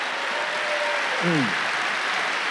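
A church audience claps together in praise of God in a steady, dense wash of applause, with a brief voiced cry rising and falling partway through.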